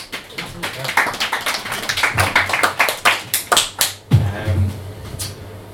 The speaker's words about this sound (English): mentioned the applause between each poem.